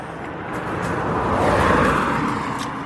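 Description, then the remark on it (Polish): A car drives past, its broad road noise swelling to a peak midway and then easing off as it moves away. No voices, just the steady rush of tires and engine. “Wiesz, bo to za każdym razem byśmy musieli mu wiedzieć, że jedzie samochód, to trochę bez sensu.”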